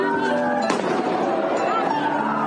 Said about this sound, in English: the gunshot, or whatever that was. Whatever that was.